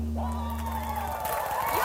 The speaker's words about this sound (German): Ja, so viel Applaus wollte ich gar nicht haben. Danke sehr, danke sehr.